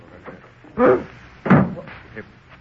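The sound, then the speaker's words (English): A door is opened to answer it, with two solid clunks of the latch and wood about half a second apart, against a faint low background murmur. “Pardon me while I answer the door.”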